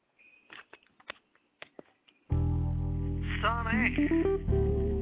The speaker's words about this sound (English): I want to jump to a little music, little thing right quick, and we'll be right back.